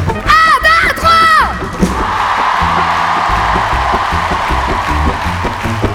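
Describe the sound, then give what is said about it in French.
A large festival crowd at the Festival de La Rochelle roars and cheers loudly, with high shrieks and whoops rising over the dense sustained din in the first two seconds before it settles into a steady wall of crowd noise. “Et à tous les gens qui nous ont accueillis ici, les gens qui organisent, je voudrais qu'on leur fasse un gros big up et qu'on crie très très fort.”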